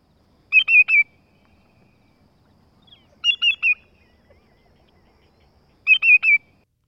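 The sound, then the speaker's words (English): Calls of lesser and greater yellowlegs, large sandpipers: bursts of sharp, high whistled notes, the lesser's call two-noted and the greater's three-noted, spaced a few seconds apart over silence with no voices. “Compare the two-noted call of the lesser yellowlegs. With the three-noted call of the greater yellowlegs.”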